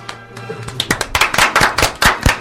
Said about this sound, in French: On les entend les applaudissements au moins parce que depuis tout à l'heure on se fatigue.